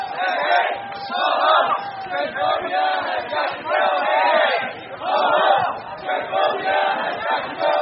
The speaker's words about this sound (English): The march took over one of West Hollywood's busiest streets, Santa Monica Boulevard. Cars honked their horns in support as the crowds shouted.